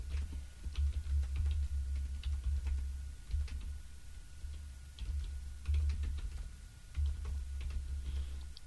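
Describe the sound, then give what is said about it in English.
Typing on a computer keyboard, a stream of quick, irregular key clicks in short bursts, over a steady low hum, with no one speaking. “Oh, gosh, I'm typing under pressure.”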